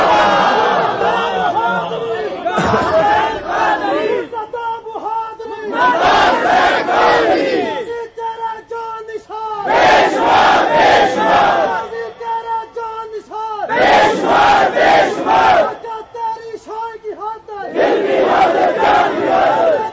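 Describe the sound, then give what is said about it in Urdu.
A large crowd shouts religious slogans in unison, loud bursts of chanting repeating in waves with brief lulls between them, voices mixed with a leader's calls. “ہوں جی رہ گیا 10 منٹ, ہوں تسی نعرے نہیں لانے, میری گل سنو جی.”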